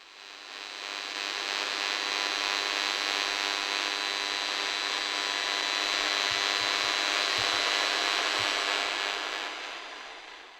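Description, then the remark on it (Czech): Steady electronic interference hiss from a modem with a faint buzzing hum underneath, fading in and out and holding an even level throughout, with a few soft low thumps near the end. No voices. “Modemu.”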